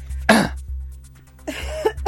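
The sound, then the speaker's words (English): Two loud coughs about a second apart, the first sharp and short, the second longer and raspier, with a low steady hum underneath. “I mean, for someone who didn't want to cough on air, you've gone for it now.”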